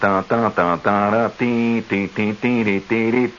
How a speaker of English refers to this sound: Now, since the school's color was purple and white, which is the same as what university in the Big Ten? Quick. Purple and white. I'll hum the school song of that school.